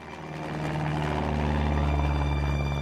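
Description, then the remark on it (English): Loud, steady drone of a Cessna propeller plane's engine heard from inside, with strong low harmonic hum and wind rushing into the fuselage, as skydivers ready to jump; it swells slightly at the start then holds constant, no voices. “There are propellers spinning. It's windy. Wind rushes into the fuselage and you feel it on your face.”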